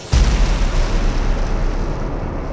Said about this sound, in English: And then finally they collide together and there's a blast.